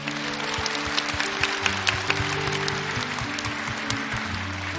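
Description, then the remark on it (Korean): Steady applause from a large church audience at a Christmas cantata with the youth choir at Manna Church, given as thanks and glory to God; many hands clapping in a dense, continuous wash for several seconds, with sustained low instrumental chords holding underneath. “우리 하나님께 감사와 영광의 박수를 먼저 드릴까요?”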